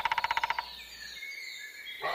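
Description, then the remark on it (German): A woodpecker drums a quick, even burst of about nine sharp knocks lasting just over half a second, followed by faint, steady tones and quiet woodland background with no voices. “Da klopft doch ein Specht.”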